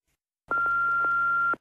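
A single steady electronic beep, an answering machine's tone before a recorded telephone message, sounds loud for about a second, with a faint click at its start and end. No one speaks.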